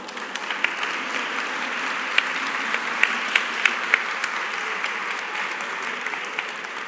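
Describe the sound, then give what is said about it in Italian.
An audience applauds for Turin (Torino) steadily for several seconds, a dense, even wash of clapping with a few sharper individual claps standing out, and no one speaking over it. “Per cui io credo che Torino meriti un applauso.”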